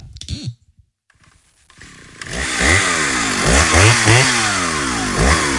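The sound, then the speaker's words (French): After a brief voice and a moment of quiet, a chainsaw engine starts up and revs loudly and repeatedly, its pitch rising and falling in quick bursts. “Chérie, là, j'ai vraiment besoin de la tronçonneuse.”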